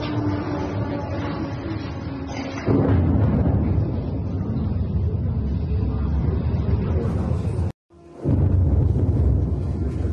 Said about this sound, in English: this one ends up being drones that ended up smashing into Kyiv not that long ago